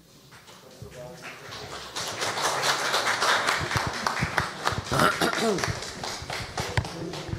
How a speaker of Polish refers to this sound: Panie komendancie, myślę, że te oklaski świadczą o jakości waszej pracy.